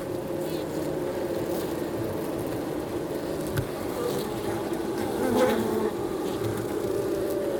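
A dense, steady drone of many honeybees from two colonies swarming around their hives at Aspen Ridge Greenhouses in central Alberta, the buzzing continuous and fairly loud, swelling slightly near the end.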